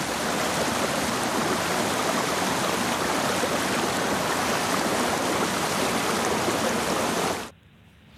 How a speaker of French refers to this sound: C'est un peu comme une deuxième maison, quoi. C'est la rivière.